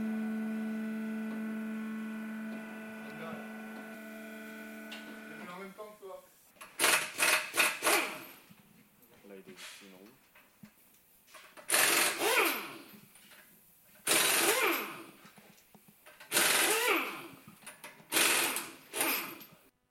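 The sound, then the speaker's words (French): A pneumatic impact wrench, used to tighten and loosen car wheel rims, rattles in several loud, harsh bursts, each about a second long and separated by short pauses, after a steady droning hum. Faint voices murmur between the bursts. “Ce qui fait ce gros bruit que vous venez d'entendre, c'est une visseuse pneumatique qui sert à visser et à dévisser les jantes des voitures.”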